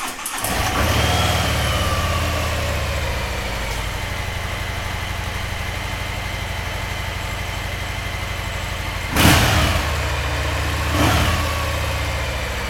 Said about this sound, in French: Avec son indemnité de licenciement, il s'est acheté une Harley Davidson. Et donc, il l'a démarrée juste pour moi.